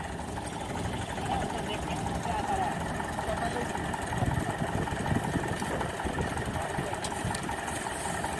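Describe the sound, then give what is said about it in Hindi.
A Farmtrac 45 tractor engine runs steadily and fairly loud throughout while being tried out in a very wet, muddy field, a low continuous rumble with a rough, knocking texture. Indistinct voices may sit faintly beneath it. “Farm track 45 को आजमाएंगे इस गिल्ली लीक में।”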